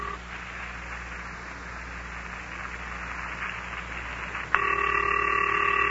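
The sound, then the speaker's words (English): A hissy, humming phone line, then near the end a steady electronic ringing tone comes in, as if a call is ringing on the other end, waiting for someone to pick up. No one speaks. “Not until they pick up their telephone at any rate. I wish they'd hurry up and answer.”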